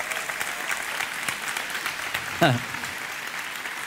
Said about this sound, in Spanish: Dense un aplauso, por favor.